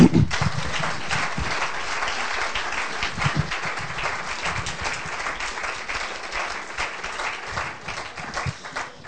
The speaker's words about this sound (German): Wir wollen ihn begrüßen mit einem Applaus.